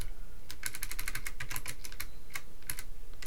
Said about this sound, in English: Let's type some stuff to see if we can sync up audio with what I'm typing.